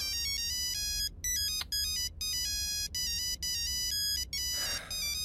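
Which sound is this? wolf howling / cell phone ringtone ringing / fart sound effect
cell phone ringtone ringing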